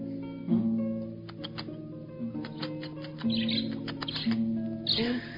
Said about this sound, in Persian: انگار پرنده ها بیشتر از ما موسیقی سرشون میشه.